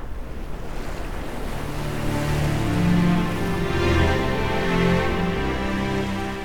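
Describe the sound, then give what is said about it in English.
Gentle sea waves lap steadily, with a few soft swells rising and falling over a low, continuous wash of water. No voices are present. “There were no sounds beside the soft lapping of the sea.”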